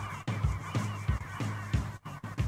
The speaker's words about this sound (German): Das Lied hat so einen super tollen Ausklang gehabt, nämlich den, mit lauter Möwen. Den hätten wir im Hintergrund noch laufen lassen können.